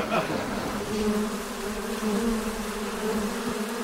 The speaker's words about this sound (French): Donc j'ai enregistré le son des abeilles en 1962 et je suis revenu avec 3 km de bande.